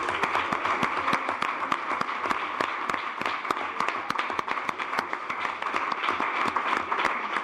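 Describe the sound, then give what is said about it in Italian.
Sustained audience applause for the students of class 5D, who presented the In Erba Turismo website. A dense, steady patter of many hands clapping at once, loud, continuing without a break and with no talking over it. “Vabbè, facciamo un applauso anche a lei, che non è presente. Ma l'applauso più forte, più sentito, è ai ragazzi, ovviamente, della quinta D.”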